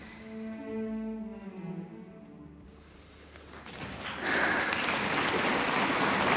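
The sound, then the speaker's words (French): A sustained note sung by a young mezzo-soprano, with harmonic tones, fades out at a December 1838 concert. Then the standing audience breaks into loud, dense applause that swells and holds steady through the end. “Ils sont debout. Ils applaudissent.”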